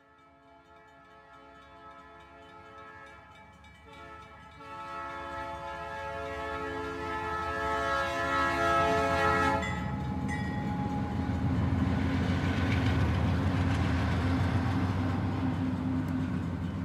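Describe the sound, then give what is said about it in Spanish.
A freight train's horn blares in a long, steady chord for several seconds at the state's last train station, a dead-end terminus, then cuts off, leaving the loud, heavy rumble and rattle of the rolling train. “Esta es la última estación de trenes del estado. Es un callejón sin salida al cual los trenes de carga llegan y ya no pueden continuar, así que deben regresar la mayoría de veces vacíos hacia sus lugares de origen.”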